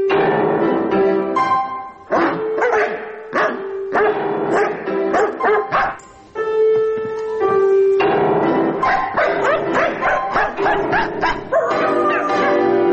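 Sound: husky dog barking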